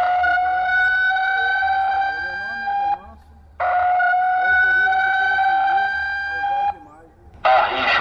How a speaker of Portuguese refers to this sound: O som da sirene é o alerta necessário para que os moradores deixem as casas.